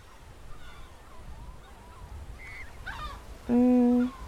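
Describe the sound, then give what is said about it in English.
Birds call over a faint outdoor murmur, with a few cries early on, then one loud, harsh honking call near the end, where people sit down outdoors to eat fish and chips. “The birds won't be a bother.”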